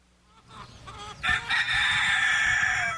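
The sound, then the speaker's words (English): A rooster crows loudly, a long sustained call rising after a few short clucks, with chickens audible in the background in a backyard in Philadelphia. “There are plenty of chickens in Philadelphia backyards.”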